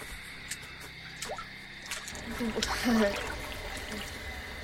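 Water sloshes and splashes in uneven bursts as someone wades into a cold lake, with dripping and trickling sounds, a brief faint vocal murmur in the middle, and a steady background hiss.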